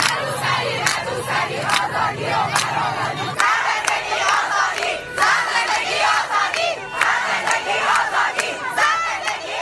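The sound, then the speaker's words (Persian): A crowd of schoolgirls in Iran chants slogans in unison in the street, loud high-pitched voices rising and falling in a steady rhythm of repeated shouted phrases, with scattered yells and cheers between them. “دانش آموزان دختر تنها پشت درهای بسته کلاس‌های درس شعار نمی‌دهند، بلکه در خیابان همان فریادهای جامعه را سر می‌دهند.”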